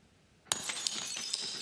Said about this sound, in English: And breaking of glass can indicate the end of a relationship or a friendship.